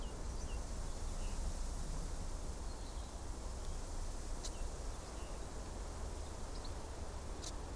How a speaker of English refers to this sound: These are the sounds of a rainy summer's day in Blackheath Forest in the Surrey Hills, about an hour's train south from central London. A rainstorm has just passed over, soaking the bark of the young Scots pine saplings.